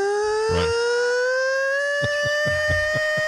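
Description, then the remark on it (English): The classic Islanders hockey arena goal siren wails loudly and steadily with a slowly rising pitch, joined by a series of short thumping bursts underneath toward the end. “And Ted, of course, gave us the classic Islander siren, which was a very nice throwback.”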